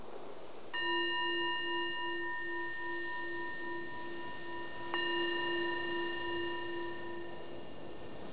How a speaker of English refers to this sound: The bell is the invitation to let go of whatever you were doing before, the invitation to come inwards and just check in and see, how is it right now?